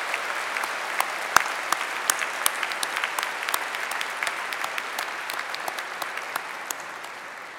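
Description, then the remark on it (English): Sustained applause from an audience at a Cornell Law School graduation ceremony for the Class of 2017, given for the mothers present: a dense wash of many hands clapping steadily at an even volume for several seconds, with sharper individual claps popping out here and there. “So let's also take a moment to give a special round of applause to our mothers.”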